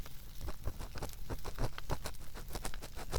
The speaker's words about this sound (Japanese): 私、この暖炉の音って癒し効果があるなと感じます。